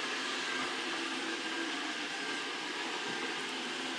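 electric kettle boiling

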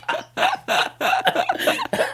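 fake cough

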